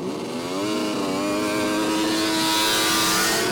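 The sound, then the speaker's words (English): Snowmobile engines rev loudly together as Alcan race riders set off two by two from Haines up the Haines Highway, a steady high-pitched buzzing whine whose pitch climbs and wavers as they accelerate, with no voices over the sound. “With duct tape on their faces to protect against the wind chill and an ambulance following behind, the snow machiners were off, two by two.”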